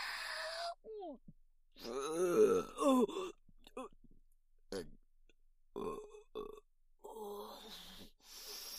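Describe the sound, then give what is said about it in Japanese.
A string of loud, close burps, some long and groaning, others short, coming one after another with brief pauses between them over several seconds. “ゲップが止まりませんわ。”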